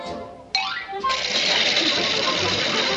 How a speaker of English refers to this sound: I wish Fred would get me a modern sewing machine like yours, Betty.